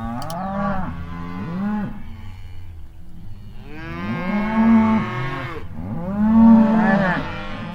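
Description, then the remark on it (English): Several cattle being moved by ranchers in Idaho moo in overlapping, drawn-out calls, with a few loud bellows rising while other animals low softly in the background. “Idaho ranchers are moving cattle in the time of COVID-19, but the industry is rapidly changing.”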